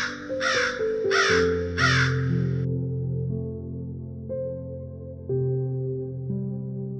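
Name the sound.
crow cawing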